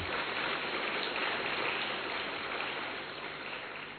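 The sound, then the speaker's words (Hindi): An audience at a conference welcome session applauds in a dense, steady wash of clapping that holds evenly for several seconds before gradually softening toward the end, with no voices over it. “तालियां तो बजाओ।”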